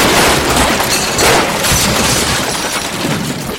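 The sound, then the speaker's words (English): A loud, sustained crash of a boat striking an island, the last standing mountain in a flooded world: a harsh, noisy roar of rumbling, splintering impacts that holds steady for several seconds before easing slightly, with no voices. “Then the boat crashed against the island.”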